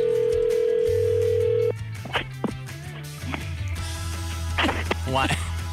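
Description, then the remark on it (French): A steady electronic ringback tone hums through a phone line for under two seconds on an outgoing wake-up call, then cuts off as the call connects, leaving line noise and muffled voices. “Fait que j'ai appelé celle-là qui l'a inscrite.”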